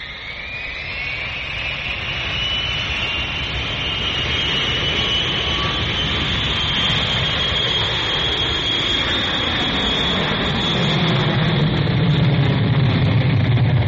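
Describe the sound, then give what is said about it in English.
A jet airliner roars steadily as it comes in to land in St. Louis, its high engine whine sliding slowly in pitch while a deep rumble builds near the end. Loud, continuous, no voices. “Here I go to land this big son of a gun.”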